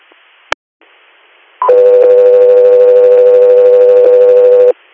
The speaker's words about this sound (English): Roger, you're stand by for tones.